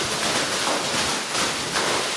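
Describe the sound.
Children rustle bags to make wind during a story: a steady, hissing whoosh that swells a few times in soft surges over about two seconds, with no voices.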